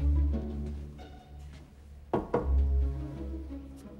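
Two quick knocks on an office door, sharp and solid, in a steady low electrical hum with no one speaking.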